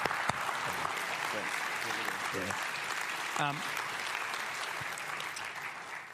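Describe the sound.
A crowd applauds steadily for about six seconds, a dense, even wash of clapping with a few faint voices and a brief shout mixed in.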